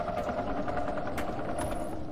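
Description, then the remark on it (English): Rhythmic, repeated stomping footsteps from Figure, a long, tall, blind monster in a video game, thud steadily over a constant low, grinding drone, with no one speaking. “See, you can hear his sound. He's like, like, yeah, that. He stomps.”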